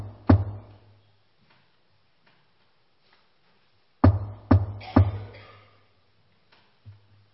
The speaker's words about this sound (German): Es hat geklopft. Jetzt wieder. Wer mag das sein?